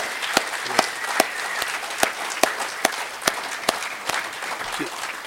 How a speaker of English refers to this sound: And I really do applaud you guys. Can you give one more round of applause for these guys real quick? There.